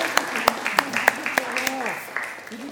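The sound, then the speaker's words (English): Audience applause for the people who played the party, heard as a run of about seven sharp, evenly spaced claps at a moderate level, with voices murmuring underneath and the clapping fading out near the end. “Can we have a big round of applause for our party?”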